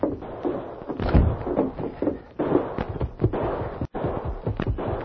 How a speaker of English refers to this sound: Hey, listen. What's that? Sounds like... Gunfire. It was over on Main Street.